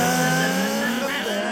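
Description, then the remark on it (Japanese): Several voices imitate race car engines at the start of an air car race, a performance contest at the Air Car Grand Prix Japan at Botchan Circuit, Ehime Prefecture, under hot sun: a dense, loud, continuous mix of buzzing revs with pitches sliding upward, like a pack of cars accelerating together from a start. “エアギターのようにまるで本当に車に乗ってレースを行っているかのようなパフォーマンスを競うエアカーレース。”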